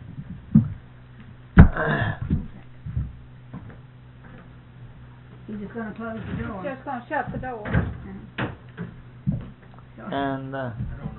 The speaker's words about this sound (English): He's just going to close the door. Just going to shut the door. And I don't know how. I just keep slamming it.